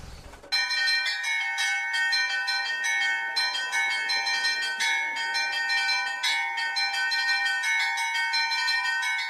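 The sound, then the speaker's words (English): Church bells of the Rostov Kremlin bell tower in Rostov, on Lake Nero, ring loudly and continuously, overlapping strikes with rich sustained harmonic tones and repeated fresh attacks every second or so, a full resonant peal with no voices; the largest Rostov bell weighs 32,000 kilograms. “The largest of the Rostov bells weighs 32,000 kilograms, and the sound of its chimes can be heard for 20 kilometers.”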